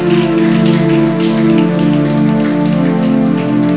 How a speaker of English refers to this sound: We need to celebrate this man. Let's clap for him.